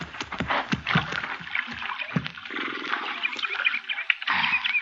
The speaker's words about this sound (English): Yeah, we better water our horses here at the creek